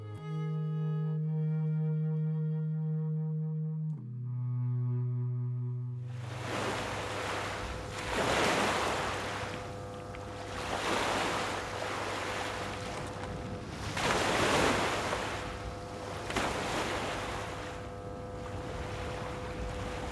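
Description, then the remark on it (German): Ocean surf rolls in with loud, repeated swells of waves breaking on the shore, rising and falling every few seconds. It follows a brief low, steady horn-like tone, and a faint hum persists underneath. “Vieles andere aber hat die Brandung in Stücke zerschlagen.”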